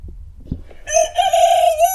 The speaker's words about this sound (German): Hast du was gehört? Ja, diesen Vogel kenne ich sehr gut. Das ist mein Hahn. und zwar habe ich den heute Morgen... Schön, schöner Hahn. Ja, ist ein sehr schöner Hahn.